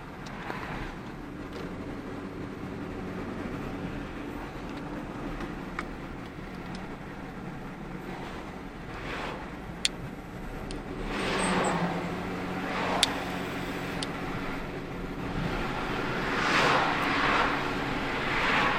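The speaker's car, which has missing brake lights, drives along a road toward Westfield Shopping Centre with steady engine and tyre rumble, broad road noise swelling as other vehicles pass, plus a couple of faint clicks.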